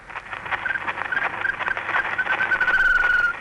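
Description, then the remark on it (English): An 1889 recording of an Indian shama bird, the first recording of a bird, made by eight-year-old Ludwig Koch of Frankfurt: a few faint, thin whistled notes, short at first and then one longer held note, buried under a thick wash of hiss and crackle that grows louder throughout. “The first recording of a bird. In fact, an Indian Sharma bird, made in 1889 by an 8-year-old boy from Frankfurt called Ludwig Koch.”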